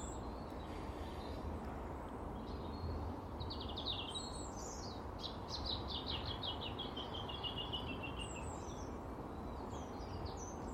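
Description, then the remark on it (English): A blackbird gives its alarm call, a rapid series of sharp, repeated chinks that come in bursts, heard over a steady low outdoor rumble on a grey, calm morning, with no one speaking. “What have you seen, Mr. Blackbird, on alert?”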